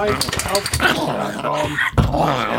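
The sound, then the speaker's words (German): A small pug growls and whimpers in a steady, restless stream of low rumbles and thin whines, with people talking over it. “Das ist unser kleiner Mops.”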